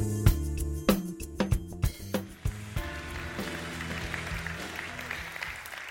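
Music with sharp percussive hits opens, then a steady wash of audience applause swells in and continues under the lingering music until the end.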